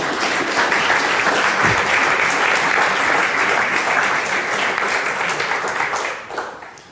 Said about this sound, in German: Applaus, Applaus. Vielen Dank.